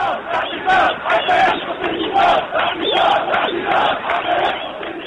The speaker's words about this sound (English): We'll sit here until the regime comes down, they chanted in the centre of the capital, Tunis.